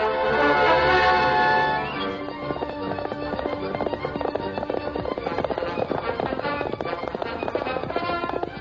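The Lone Ranger's horse Silver gallops hard and fast at breakneck speed, its hooves pounding in a rapid, steady drumming rhythm that stays loud after a brief tonal opening, with no one talking.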